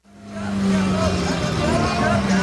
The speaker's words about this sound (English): The traffic on the road to this lake in northern Syria stretches for miles.